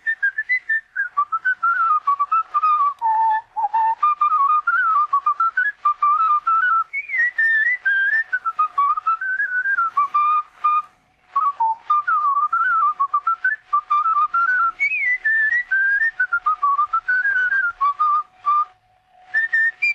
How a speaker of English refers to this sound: This is a recording from 1915, nearly 110 years ago. And it is somebody whistling.